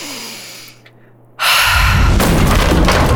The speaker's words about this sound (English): The force of Tua's breath blew the door open wide.